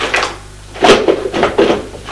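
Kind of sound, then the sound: household object, drawer being opened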